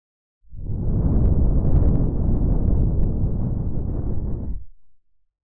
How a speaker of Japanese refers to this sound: 最後に吐息を吹きかけました。